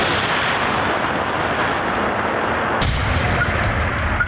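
A controlled detonation of an unexploded aerial bomb by deminers, recorded by a camera about 500 metres away: a loud, steady roaring rumble runs throughout, then shifts abruptly into a harsher, fuller blast of noise with deeper booming weight for the final second and a half.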